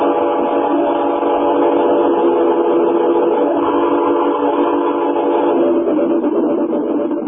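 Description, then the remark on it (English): A train rolls along the rails with a loud, steady, unbroken roar layered with droning, whistle-like tones, continuous for the whole stretch, with no voices. “You want to be able to jump when the train slows down at the big curve.”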